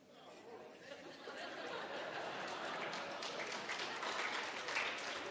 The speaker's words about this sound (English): I don't know why you guys are clapping. I don't know why you're clapping at all.